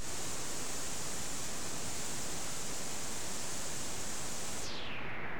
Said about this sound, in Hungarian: Rózsazaj.